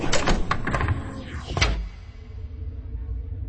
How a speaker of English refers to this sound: The door closed.